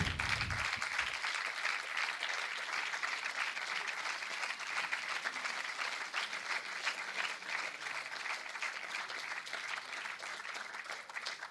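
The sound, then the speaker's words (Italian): Sustained applause from an audience after a reading, a dense, steady wash of many hands clapping at a loud, even level throughout, with no voices standing out. “Dice di fare un applauso”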